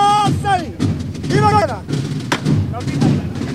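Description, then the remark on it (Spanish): A sharp metallic knocker strike rings out once on a procession float in the courtyard of San José, the last knocker strike given in this brotherhood, cutting through a murmuring crowd and rising, wavering voices. “Y esa fue el último golpe de llamador”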